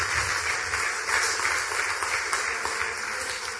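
An audience applauds steadily, a dense, continuous wash of many hands clapping at even loudness for several seconds, with no voices over it.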